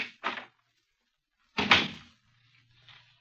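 The door to the Black Museum on the lower ground floor of New Scotland Yard opens: two quick latch clicks, a short pause, then a louder, heavy clunk and rattle as it swings, fading into a faint hum. No one speaks.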